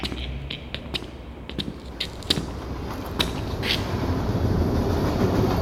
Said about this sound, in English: Ooh, living this close to a train station. Jeez, I wouldn't be able to sleep.